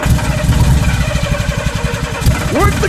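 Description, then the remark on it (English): A car engine rumbles steadily with a rapid, low throbbing pulse, loud throughout, then a quick rising whine near the end like a short rev. “Not before you hear our revolutionary car sound.”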